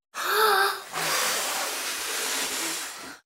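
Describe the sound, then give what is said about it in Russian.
A voice imitates a wolf blowing hard at a house: a short, strained breathy intake, then a long, loud, steady whoosh of forceful blowing lasting a few seconds. “Волк подул.”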